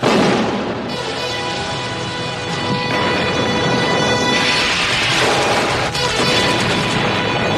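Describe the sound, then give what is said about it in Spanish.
A loud, dense barrage of gunfire and explosions from the trailer of a Chuck Norris film produced by Canon Films rolls on without pause, with heavy booming blasts punctuating the continuous roar of battle and a steady tonal layer underneath. “Tiros, disparos... Explosiones... Eso es el tráiler.”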